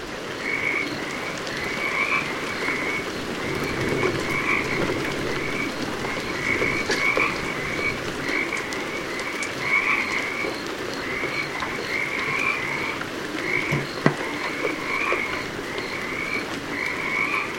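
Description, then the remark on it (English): A dense chorus of Pacific chorus frogs croaks continuously in the winter rains, many overlapping rhythmic pulsing calls repeating over a steady background hiss, with no one speaking; recorded by Mark Seth Lender. “And when the winter rains come, the frogs can be heard singing its praises.”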